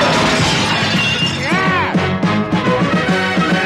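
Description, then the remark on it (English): A rock smashes through a large upstairs bedroom window on a cloudy, drizzly morning: a loud burst of breaking glass followed by a steady stream of tinkling shards falling for several seconds. “So you reach down and you find the biggest rock you can find. And you aim it for that big window up in the bedroom and you just heave it!”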